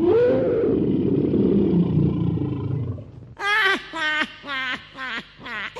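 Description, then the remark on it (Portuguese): A deep, rumbling lion roar fills the first half, loud, then gives way to about five shorter, tonal calls in a quick, uneven series. “Para provar, neste instante, irei virar um leão.”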